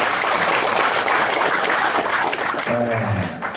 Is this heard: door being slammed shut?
no